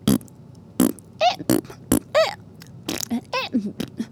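A looped run of fart sounds, short raspy bursts alternating with squeaky, wobbling pitched blurts in a quick uneven rhythm, close and fairly loud with no talking.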